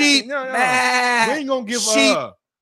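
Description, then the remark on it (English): A person's voice mimics a sheep's bleat, a loud, quavering "baa" with wavering pitch, stretched over a couple of seconds in two or three wobbly bursts. “You fucking sheep.”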